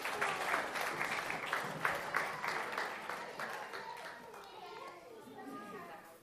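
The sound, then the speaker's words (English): Audience applause in a dense, steady patter of claps for children who had been jumping, mixed with excited children's voices and chatter, gradually thinning out over about six seconds. “Round of applause for our jumpy kids.”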